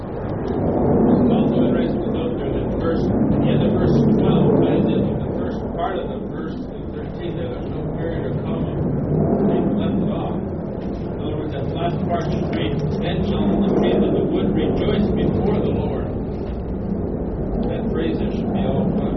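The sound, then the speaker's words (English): A steady, loud airplane engine roar fills an aircraft cabin, a deep continuous drone with a hissy upper layer, while indistinct voices murmur underneath. “I can hear the airplane real plain.”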